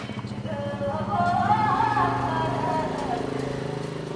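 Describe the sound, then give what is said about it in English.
A motorbike ridden by a young Tibetan man rumbles steadily on the street while loud music blares from its speakers. A wavering sung melody rides above the throbbing low drone for a few seconds. “On the street outside, music blares from the speakers of a motorbike ridden by a young Tibetan man.”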